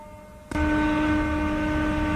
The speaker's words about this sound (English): And here's the garbage truck.